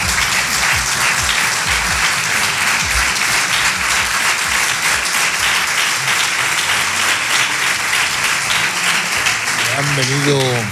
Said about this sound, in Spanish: yo les voy a pedir a ustedes un aplauso para esa gente.